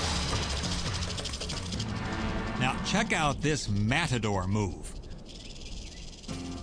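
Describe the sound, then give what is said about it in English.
A rattlesnake's dry, continuous buzzing rattle, its warning signal while on guard against an attacking red-tailed hawk, hisses steadily and loudly throughout, while a man's voice speaks briefly over it in the middle. “It sounds its trademark warning signal.”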